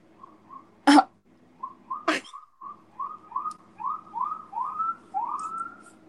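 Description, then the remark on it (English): A siren passing outside, rising in a rapid series of short upward whoops, about two per second, swelling louder and longer as it goes, with two sharp knocks early on. “Anyway, I totally lost my train of thought with that siren coming through.”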